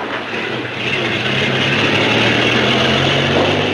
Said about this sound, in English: Another driver starts up a truck whose stacked cargo is covered with a tarp.